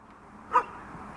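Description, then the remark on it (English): A single short dog bark rings out partway through, moderately loud, against a quiet, faintly rumbling outdoor background with no one talking, as dogs roam the muddy roads of Panorama, a colonia, after a spring rain shower. “Dogs roam Panorama's muddy roads after a spring rain shower has driven everyone indoors.”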